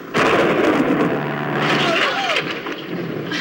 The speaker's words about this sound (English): It's a terrible storm.